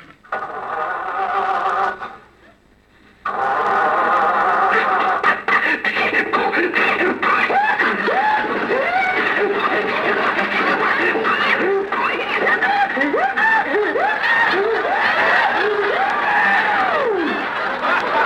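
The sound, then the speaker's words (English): An old car motor, started by Rochester, sputters and coughs repeatedly without catching, a rising-and-falling wheezing chug, apparently imitated by a voice. It is loud, with a brief pause early on before the sputtering resumes. “Rochester, I can't understand that motor. Maybe there's some dirt on the spark plug.”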